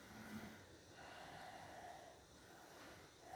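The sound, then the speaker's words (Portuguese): A slow, deep breath drawn from the diaphragm as a breathing demonstration, a soft steady airy rush lasting a few seconds, quiet and alone with no talking. “Você pode respirar aqui, que é assim.”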